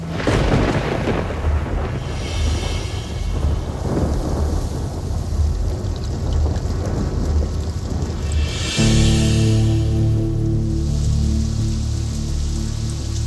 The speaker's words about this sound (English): Working my way down the hill. It's getting dark, it's starting to rain.